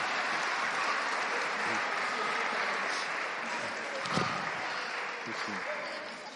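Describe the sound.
A crowd applauds steadily for several seconds, a dense, even patter of many hands clapping at once, with a few scattered voices mixed in before it begins to thin out at the end.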